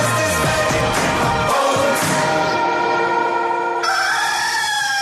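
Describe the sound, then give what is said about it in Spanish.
A loud, drawn-out rooster crow rings out, its strained harmonic call wavering in pitch and holding for several seconds without any voices. It introduces the 'El gallo' morning segment of the radio station Radioactiva. “El gallo, por radioactiva.”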